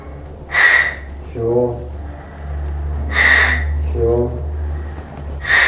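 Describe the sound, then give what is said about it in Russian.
Three sharp, forceful inhalations at steady intervals during a breathing exercise, each a loud airy rush of breath, followed by a short lower exhaled sound, with a constant low hum beneath. “Свободно возьми дыхание, давай. Ну и посильнее. Еще.”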